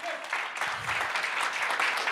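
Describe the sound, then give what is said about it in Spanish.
A crowd claps steadily in a dense, continuous burst of applause, loud and unbroken throughout, with no one speaking over it, as an audience welcomes a guest speaker. “que me encantaría que por favor lo reciban con un fuerte aplauso.”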